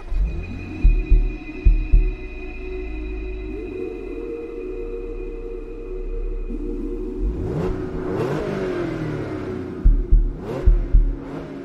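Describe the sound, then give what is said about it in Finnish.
A bank manager's car engine rumbles, gives a few short revs, then climbs in pitch as it accelerates away, with more sharp revving bursts near the end. Nobody speaks. “ja kysyi, että onko pankinjohtajalla autoa ja kun hänellä oli, niin sitten pankinjohtajan auto oli se, jolla lähdettiin liikkeelle.”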